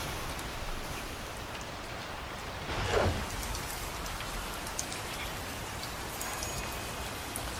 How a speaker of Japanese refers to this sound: 私、雨に濡れるのはあんまり得意じゃないのですが、雨の音を聞いたり眺めたりするのは大好きなんです。それでは障子を開けてきますね。